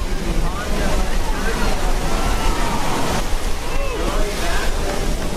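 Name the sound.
ocean surf waves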